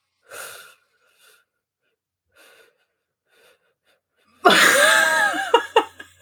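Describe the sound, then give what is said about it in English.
A sharp breathy intake through the mouth as a person tries to breathe in for 10 seconds, followed by faint quiet breaths and then a loud, strained wheezing gasp for air near the end. No talking. “I cannot breathe in for 10 seconds.”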